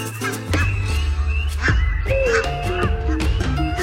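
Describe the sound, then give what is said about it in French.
A person imitates goose calls to prompt a brood of geese that know them to take flight, with a string of nasal, honking cries, several in quick succession over about four seconds, loud, with no talking. “En imitant ces sons, vous pouvez inciter une couvée de vos, des oies qui vous connaissent de s'envoler.”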